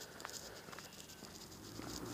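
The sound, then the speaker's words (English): Faint, steady chirring of crickets outdoors during a daily walk, a continuous high-pitched drone with soft background noise and no voices. “You may hear the birds and the frogs and the crickets and the motorcycles and cars nearby.”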